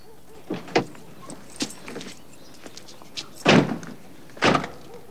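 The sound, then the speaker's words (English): Car door clunks and handle clicks, ending in two solid door slams a second apart, as two people climb out of a car parked in a tree-lined street opposite a townhouse. No one speaks. “Alex pulls over in Corinne's tree-lined street, just opposite her townhouse. He and Philip get out of the car and cross the road.”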